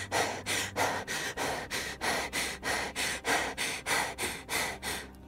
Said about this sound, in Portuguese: Minha respiração foi ficando mais ofegante.